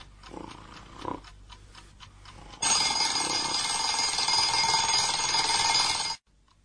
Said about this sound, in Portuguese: Zé Ernesto, não tá ouvindo o despertador, homem?